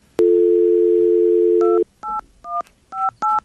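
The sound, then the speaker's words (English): A steady, loud telephone dial tone hums for over a second after a hang-up, then gives way to a quick string of about five short keypad dialing beeps. No one speaks. “I think we got disconnected. Yes, we did, because I hung up on you because I don't like your attitude.”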